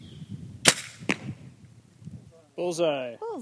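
A dart rifle fires a bison contraceptive dart, holding a needle with the vaccine PZP, at a pillow propped on a plastic chair 30 yards away. It makes a sharp, bright pop, then a softer crack half a second later. Low murmuring sits underneath, and a brief tonal, wavering voice-like sound comes at the end.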